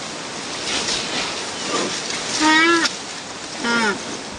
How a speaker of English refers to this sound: Here's a young black rhino trying to climb over a fallen log. Flies buzzing, a couple of legs over the log, snorting, squirming.